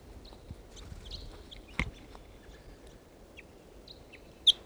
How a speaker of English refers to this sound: Reach another tree here in the park. Stop. Here's that wild bird.